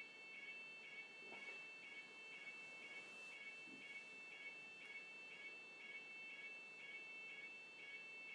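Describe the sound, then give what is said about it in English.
A building fire alarm rings steadily in rapid, evenly spaced electronic pulses, sounding somewhat muffled, with no voices, just faint background noise. “Because they're not showing many signs of actually switching this alarm off.”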